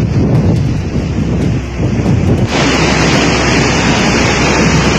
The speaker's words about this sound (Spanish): Sí, bien, no, bueno, es el audio de, se puede apreciar viento, se puede apreciar el agua, un cauce bastante grande